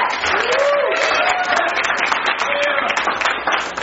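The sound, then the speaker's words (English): A church audience at Faith and Victory applauds steadily as a new member is received, a dense patter of many hands clapping at once, loud and continuous, with a few faint tonal whoops or cheers rising over it. “You can clap, it's fine.”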